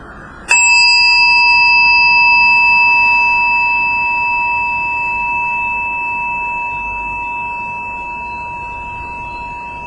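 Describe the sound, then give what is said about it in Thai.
A single meditation bell is struck once, ringing out with a clear, sustained tone that slowly fades over several seconds, while listeners sit with hands folded and eyes closed, following their breath until the bell ends, before a dharma talk. No one speaks. “ขอเจริญพรทุกท่านได้สำรวมจิตใจด้วยการยืดตัวขึ้นมาประสานมือไว้ที่หน้าตักแล้วก็หลับตาตามดูลมหายใจของแต่ละคนอย่างน้อยๆ3ครั้งจนสิ้นเสียงระฆังเสร็จแล้วจากนั้นเมื่อจิตสงบเราก็มาฟังธรรมกัน”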